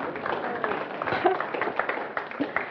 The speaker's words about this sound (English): I competed in a race. I completed the Bernie 10 and I did not die. Can I have a round of applause?